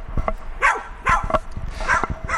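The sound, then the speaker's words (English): A dog barks several times in an irregular run of short, sharp yaps, with low thumping and rustling noises underneath, heard while someone walks along. “It's dog barking as I'm walking along here.”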